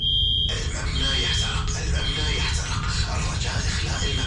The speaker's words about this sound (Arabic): عشان شيء أول أسبوعين كانت الستارة مسكرة طول الوقت، وبيوم وفجأة رن جرس الإنذار.